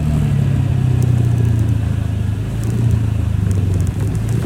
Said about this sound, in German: Ja, das ist der Originalsound von meinem kleinen Roller. Oh, ich werde ganz sentimental, wenn ich daran denke, dass ich den jetzt bald wieder abgeben muss.